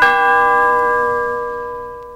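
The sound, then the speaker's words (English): The doorbell of a home chimes once with a clear, bright ringing tone that hangs in the air and slowly fades away. No voices, just the single ring decaying. “I arrived at her home on Wistful Vista and rang the bell.”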